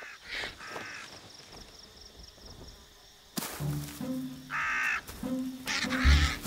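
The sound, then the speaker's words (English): A crow at a cow carcass caws loudly, a run of several harsh, raspy calls in quick succession after a few seconds of quieter outdoor background with faint chirping. “The crow's beak can't puncture the hide.”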